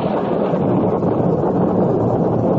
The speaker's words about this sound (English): Gotta get a roof over my head till this downpour stops. Dangerous out here.